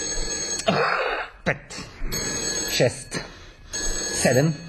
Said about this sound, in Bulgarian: И раздрънква ми се този телефон. Стига! Няма да се обаждаме.